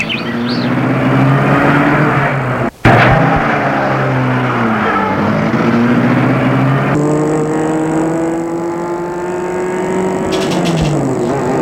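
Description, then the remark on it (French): A car engine runs loud as Martin starts the car, briefly cutting out before roaring back and revving up as the vehicle pulls away, its steady drone rising in pitch. No voices are heard. “Et là, Martin la met en route.”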